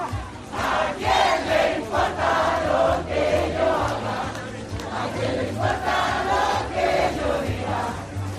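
A large crowd cheers and shouts joyfully in the snow, voices rising in repeated surging waves of whoops and chanting over a steady low rumble, loud throughout with no single voice standing out.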